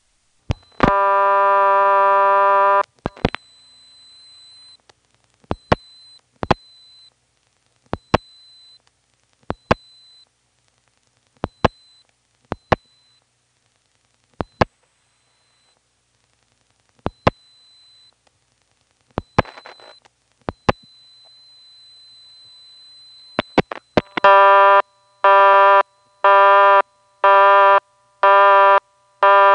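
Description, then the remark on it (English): An NX1 telephone exchange clatters through a dialed toll call (1 plus a toll number) with a steady burst of tone, then a long series of sharp relay clicks spaced out in rhythm, ending in a repeating on-off busy signal given when the trunk goes off hook. “Here's what happens when you dial 1 plus a toll number.”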